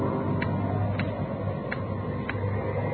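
A clock ticks steadily, about one tick every two-thirds of a second, its crisp clicks standing out over a constant rushing, windy background noise.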